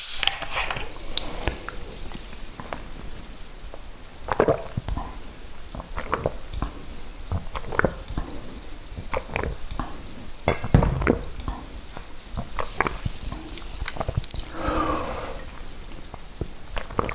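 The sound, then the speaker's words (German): Someone takes a sip of water amid soft clinks and handling noises, small wet swallowing and slurping sounds, and a few sharper taps spread irregularly over the moment. No one speaks. “Genau, jetzt trinke ich noch einen Schluck Wasser.”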